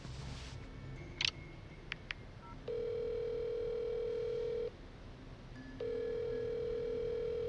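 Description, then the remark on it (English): Two long, steady electronic ring tones of a phone call to Special Agent Asher, each lasting about two seconds with a pause between, preceded by a few faint clicks. No one speaks. “Special Agent Asher, pick up your phone.”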